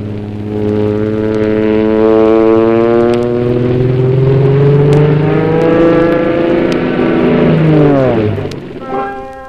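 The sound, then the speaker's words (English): A propeller aeroplane drones loudly and steadily, its engine pitch slowly rising and then dipping sharply near the end as it passes by, with no voices. “Let's take a trip with Mother Goose in her magic aeroplane, and we shall be in Israel before you can say your name.”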